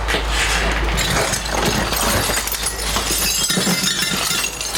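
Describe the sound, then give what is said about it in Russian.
Broken window glass shards lying on a bed after shelling in Kharkiv region, Ukraine, clink and scrape, a dense, steady clatter of small sharp ticks lasting throughout, with a low rumble underneath and no voices. “Ты не садись, там же стекло на постели.”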